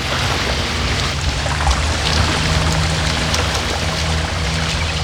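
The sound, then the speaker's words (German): A motorboat churns steadily across Black Lake, its low engine drone running under a constant rush and splash of spray, fairly loud with no pauses. “Nach ein paar Minuten drosselte der Mann das Tempo und stoppte dann das Boot.”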